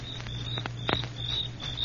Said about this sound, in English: You hear that? Yeah, sure. Just crickets, though.